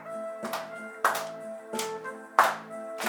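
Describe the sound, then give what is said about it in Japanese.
An audience claps in unison to a steady beat, about five sharp, crisp claps spaced evenly, with sustained tonal music ringing underneath. “手拍子も。”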